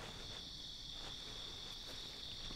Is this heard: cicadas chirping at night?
yes